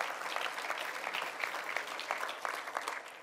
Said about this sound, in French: dites Amen n'importe quand, et applaudissons notre Dieu pour sa fidélité, son amour.